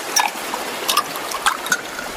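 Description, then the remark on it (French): A steady wash of ocean waves hisses in the background while a few bright, glassy clinks of ice cubes ring out at irregular moments, crisp. “Sentez le bruit des vagues ? Oh là là ! Et les glaçons !”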